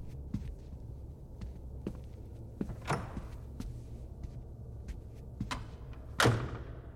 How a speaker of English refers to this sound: He stood up. He's moving to the door.